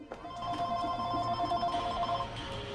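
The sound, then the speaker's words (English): A phone lying on the arm of a chair rings with a steady electronic tone, sustained tonal pulses repeating for a few seconds at moderate volume. “After searching behind the sofa cushions, she finds the phone on the arm of a chair.”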